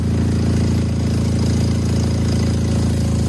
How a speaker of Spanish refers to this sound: Bueno, igual lo escuchas y piensas que es un martillo neumático, pero no, es el tubo de escape de un coche al que le han robado una pieza que se llama catalizador, una pieza bastante conocida.